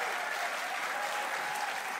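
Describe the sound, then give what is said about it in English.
Steady, dense audience applause fills the whole two seconds, a continuous wash of many hands clapping at an even loudness with no voices standing out. “I cut down the applause, I think, so he should come back on in a second.”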